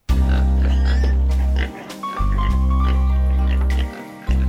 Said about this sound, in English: Younger son is feeding the pigs.